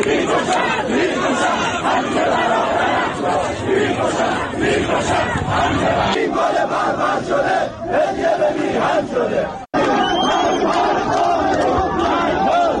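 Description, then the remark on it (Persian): A large crowd of mourners at a burial ceremony in Aligudarz, Lorestan province, Iran, chants slogans against the government in loud, rhythmic unison, many voices shouting together with a dense, steady roar that drops out briefly near the end before resuming. “در ویدیوهای منتشر شده از مراسم خاکسپاری امید سرلک در شهر علی گودرز استان لرستان اما حاضران علیه حکومت شعار می دهند.”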